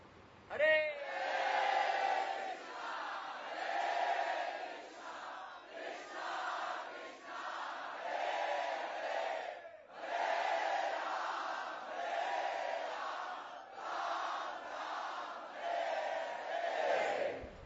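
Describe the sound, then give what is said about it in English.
A large crowd shouts together at full volume in a sustained, rhythmic chant, with loud surging bursts of many voices repeating over and over with brief gaps between phrases. “One more time. Let's try really, really loud so they can hear in Juhu.”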